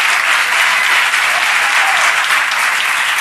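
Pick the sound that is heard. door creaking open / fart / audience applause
audience applause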